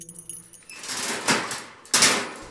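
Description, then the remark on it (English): Keys jingle and rattle with a bright metallic shimmer, followed by two heavier clunking bursts as a door is unlatched and swung open. No one speaks. “Then let's change things. Just open the door.”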